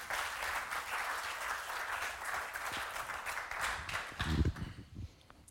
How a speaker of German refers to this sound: Lass uns mal ihren großen Applaus geben.